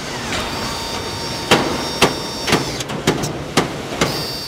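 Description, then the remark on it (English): Car factory assembly-line machinery at Ford's River Rouge complex, where the 2003 Mustang is being made, runs with a steady mechanical hum and faint high whines, punctuated by sharp metallic clanks and bangs roughly every half second. “Workers on this assembly line in Ford's huge River Rouge complex are making the 2003 Mustang.”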